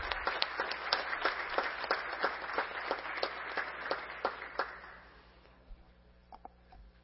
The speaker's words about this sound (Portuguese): Você dá uma salva de palmas para os nossos homenageados aí.